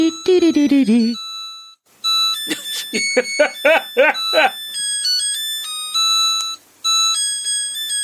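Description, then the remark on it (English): A washing machine's 8-bit tune plays as a string of bright, electronic beeping notes that step up and down in pitch. A voice talks briefly before it starts and over its opening notes. “We'll have put up the exact 8-bit version that the washing machine does.”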